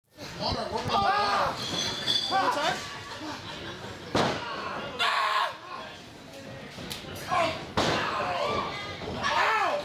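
At an Attitude Pro Wrestling show on Friday night at the Z Fun Factory in Yuma, several loud, sharp slams of bodies hitting a wrestling mat land a second or two apart, while a crowd shouts and screams excitedly throughout.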